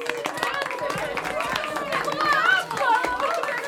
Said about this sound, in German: Als er fertig gespielt hat, hält es die Gäste vor Begeisterung nicht mehr auf den Sätzen. Der Applaus ist atemberaubend.